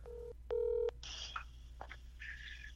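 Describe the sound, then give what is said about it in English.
Two steady electronic touch-tone beeps from a phone keypad, a short one followed by a longer, louder one, then faint hiss and soft clicks as the call connects. “All right, so now we're going to go ahead and call”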